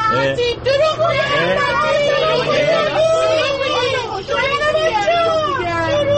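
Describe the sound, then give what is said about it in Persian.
Dense, overlapping chatter of many young students inside a bus on a Rahian-e Noor trip, with a steady low engine-like hum underneath and occasional higher-pitched whines and shouts rising above the crowd noise. “خب الان سواره اتوبوس راهیان نور هستیم.”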